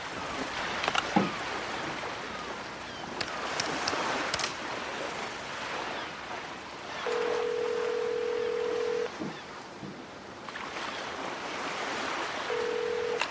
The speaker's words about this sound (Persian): از تراس میره تو اتاق، با گوشی تلفن اتاق شماره میگیره.